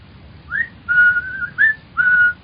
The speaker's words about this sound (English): The other, a bull-necked youth with coarse, bloated features, was standing in front of the window with his hands in his pockets, whistling.